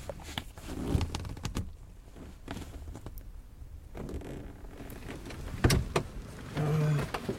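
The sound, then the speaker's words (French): A car's electric window motor whirs shut with a steady mechanical hum near the end, after a few clicks and soft interior rustling. No one speaks. “On va choper une saucée. Ah ouais, on fermait les bitons.”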